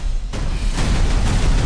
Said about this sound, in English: What did I tell you? Minimal explosions! I said no explosions!